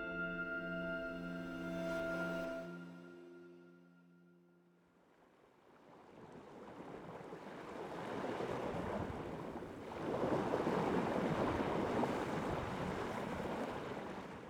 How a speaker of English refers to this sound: Those are the sounds of Alaska's far northeastern region, home to the Arctic National Wildlife Refuge, or ANWR, a federal protected area since 1960 and one of the United States' most remote regions.